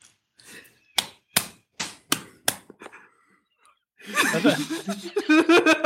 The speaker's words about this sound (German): Hast du dir jetzt selbst applaudiert?